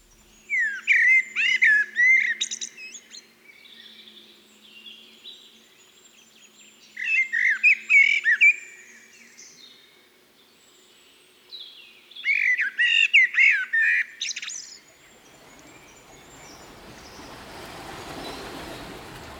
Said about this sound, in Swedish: Och vi börjar med en stannfågel med vacker sång, nämligen koltrasten.